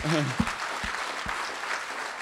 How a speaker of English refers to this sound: Folk, it's very seldom I do this, but I really think we should just, can we give the Lord a clap? I don't know if it's appropriate, but I think we should.